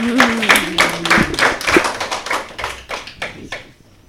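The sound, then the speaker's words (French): A small audience claps together for a few seconds to applaud the referees, who scored 3 points; a dense patter of hand claps that starts strong and gradually thins and fades out. No one speaks. “On peut les applaudir.”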